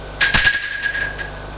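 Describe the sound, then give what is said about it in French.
A doorbell at an apartment door on an upper floor rings once with a bright, high metallic tone, struck quickly twice before the chime lingers and slowly fades out. No voices are heard. “Arrivé à son étage, ils vont vers la porte et sonne.”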